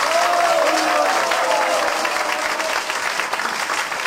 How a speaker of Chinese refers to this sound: 是我们是给他举手的勇气掌声，不是给他的答案掌声，有没有听到？再次给刚才举手有回答这些错误答案的人掌声鼓励一下。